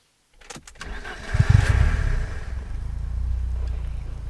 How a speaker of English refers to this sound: Okay, so there's the car starting up, or has started up. And there's the radio in the car playing as well.